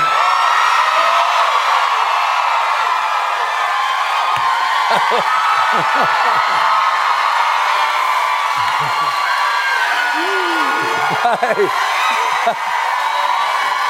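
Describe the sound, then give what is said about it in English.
A dense, sustained wall of high-pitched screaming like a large crowd of girls at the Ed Sullivan show, loud and continuous for the whole stretch, with occasional whoops rising above the din. “When you close your eyes, do you hear the girls screaming?”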